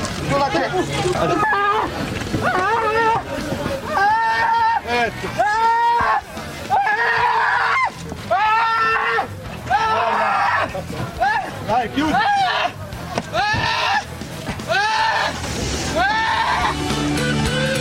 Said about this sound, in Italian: Sentiamo di un po' di grida, i migranti che urlano. Piano, saliamo di là.